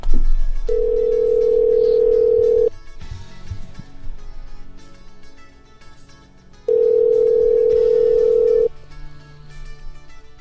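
Ringback tone of an unanswered phone call: two loud, steady mid-pitched tones, each about two seconds long, separated by a four-second pause with faint background noise and no one picking up.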